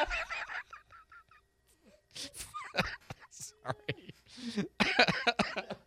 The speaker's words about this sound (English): Sorry. Cough. Oh, you're the one over there coughing. I know.